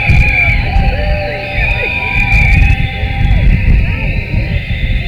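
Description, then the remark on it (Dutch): A dense outdoor crowd at a demonstration on the Herengracht, heading toward the Leidsestraat and crossing the Leidse Gracht, roars and shouts continuously, many overlapping voices forming a loud, steady din with rising and falling yells, with wind rumble underneath. “Het is in ieder geval een hele krachtige demonstratie.”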